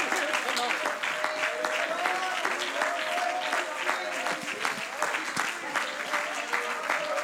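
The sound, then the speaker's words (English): An audience claps and applauds steadily as praise to the Lord, a dense, continuous patter of many hands with a few faint voices mixed in underneath. “Why don't we give the Lord a good hand clap of praise?”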